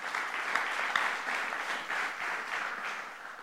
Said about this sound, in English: Give him a hand clap of praise and appreciation.